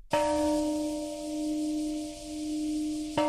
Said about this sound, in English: You're listening to the Peace Bell, which rang today at the precise time that bomb was dropped in Hiroshima.